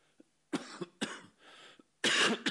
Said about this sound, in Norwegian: Unnskyld, jeg hoster litt, men det ikke noe farlig.